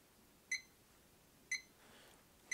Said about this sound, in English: The very first thing I do every day is I wake up, and then I usually press the snooze button on my alarm clock.